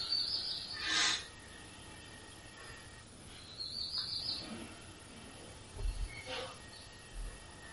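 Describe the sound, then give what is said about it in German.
Birds chirp in a few scattered bursts, soft, over a steady outdoor hiss with an occasional low rumble beneath. “Oder hören wir das Zwitschern der Vögel und sind geistig im Morgen, im Gestern.”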